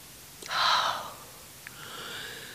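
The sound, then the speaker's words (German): Two heavy, rasping breaths from a man breathing hard with inner agitation, a sharp loud intake followed by a longer, softer exhale, with no talking around them. “atmet schwer vor innerer Erregung.”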